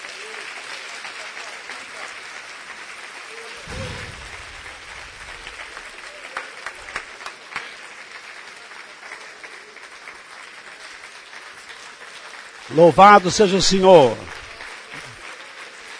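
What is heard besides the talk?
audience applause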